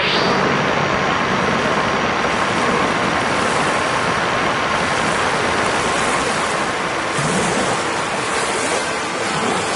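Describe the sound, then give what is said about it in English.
A loud, steady jet-like roar of an airplane flying overhead, filling the whole clip with broad rushing noise that shifts slightly near the end. No voices are heard. “An airplane sound for no reason.”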